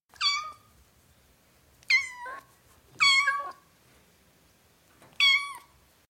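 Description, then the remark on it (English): A kitten meows four times in high, thin, slightly falling cries, clear, spaced irregularly with quiet pauses between, and no one talking. “As playful as a kitten.”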